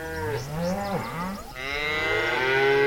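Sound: cattle mooing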